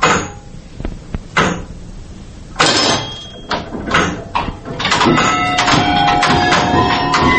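Small wooden doors right under the dome of a Lavra bell tower in Kyiv are opened into an old clock mechanism: a series of knocks and rattling clatters, then a sustained, strained creak of hinges toward the end, with no one speaking.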